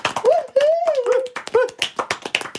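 A short, small round of applause: a few hands clapping in quick, uneven bursts, with a sustained wavering vocal whoop over the first half.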